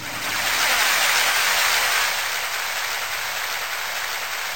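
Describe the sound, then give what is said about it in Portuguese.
A burst of crowd applause sound effect played from a keyboard for sound design, a dense, steady wash of many hands clapping with no voices, holding strong for a couple of seconds before easing slightly toward the end. “Aplausos.”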